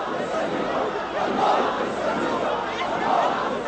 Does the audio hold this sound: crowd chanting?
yes